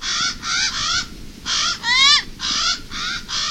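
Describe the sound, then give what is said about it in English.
A Hawaiian crow calls repeatedly, giving a series of loud, harsh, nasal caws in quick succession, each call about a third of a second long, with one more drawn-out, wavering cry in the middle. “This is the voice of a bird held sacred in traditional Hawaiian culture.”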